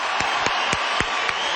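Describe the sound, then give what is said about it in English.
An audience of more than 6,000 applauds Supreme Master Qinghai steadily in a dense, continuous wash of clapping, with a few louder claps punching through at a regular, almost rhythmic pace. No one speaks. “Ladies and gentlemen, how about another round of applause for Supreme Master Qinghai?”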